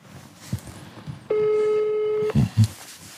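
A single steady telephone ringback tone of an outgoing call placed from Germany by ZDF journalists sounds for about a second over faint background hiss, followed by a couple of dull knocks as the line waits.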